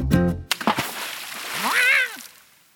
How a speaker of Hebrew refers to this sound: אבל אוי, שאול דרך בתוך גיגית מים.